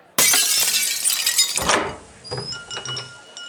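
A glass Vegan Goddess is dropped and hits the floor, shattering with a sudden loud crash, followed by a bright spray of breaking shards and a few small tinkling pieces settling afterward.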